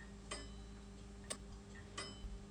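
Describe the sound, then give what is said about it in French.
Slow, steady ticking of a weight-driven mechanical clock, three distinct ticks roughly evenly spaced over a low background hum, fairly faint, with no voices. “Alors cette horloge possède une partie sonnerie qui est toujours aussi animée par un poids moteur.”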